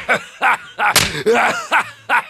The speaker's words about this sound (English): Oh, and while you're at it, I need a sample of somebody's head being smashed in.